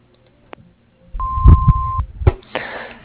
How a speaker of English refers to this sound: you have reached the Silvestris and Silvestri Construction. Please leave your name and telephone number and a brief message after you hear the beep. Thank you.